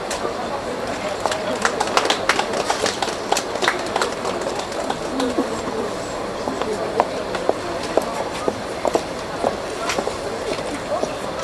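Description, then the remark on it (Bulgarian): A tram idles at a stop before pulling away, with scattered mechanical clicks and knocks over a steady outdoor hum, while a crowd murmurs and birds chirp in the background. “Този трамвай, който се подготвя за тръгване в момента, няма да ви изброявам всички екстри, които той има.”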